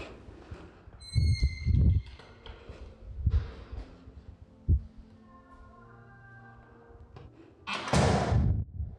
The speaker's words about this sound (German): Dann bitte geh als nächstes nach links durch die schwere Tür.